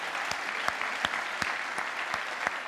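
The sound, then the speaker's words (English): A crowd claps steadily in a dense, continuous wash of applause, with a few sharper individual claps popping out at a fairly regular rhythm. No voices stand out. The audience of a spiritual community gathering applauds themselves for showing up. “Give yourselves a round of applause for showing up here today.”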